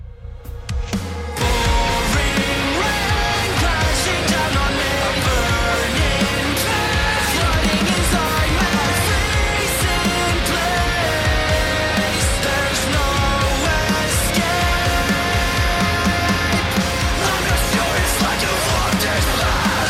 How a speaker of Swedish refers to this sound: Kul att … är tillbaka. Men med en hård dänga som skriker attityd.